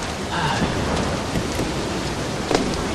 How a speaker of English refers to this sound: Woo, stay out of that storm.